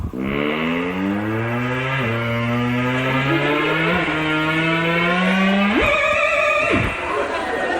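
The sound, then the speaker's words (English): A wavering electronic tone imitates a car engine, rising in pitch through several gear-shift steps like accelerating revs, then jumping high and dropping back down near the end. “Here's an impression of a car.”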